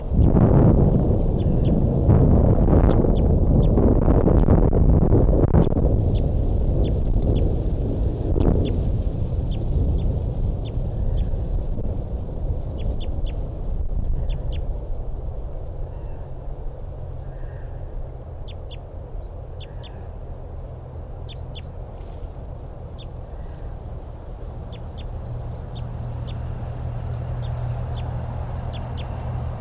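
A male bird sings in short, repeated high chirps and notes, faint against a heavy low rumble that is loud for the first half and then eases off.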